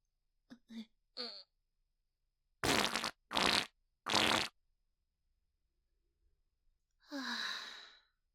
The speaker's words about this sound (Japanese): はあ、熱。彼氏くんの手に生おならかけちゃった。また匂ってきちゃったね。